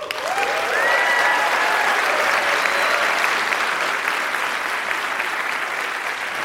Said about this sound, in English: Let's meet and applaud our debaters.